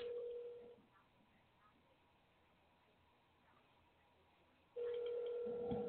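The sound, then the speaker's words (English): A telephone rings in two steady electronic bursts, one at the start and another after a long pause near the end, each a sustained mid-pitched tone with a faint buzzing overtone. “That's not my phone.”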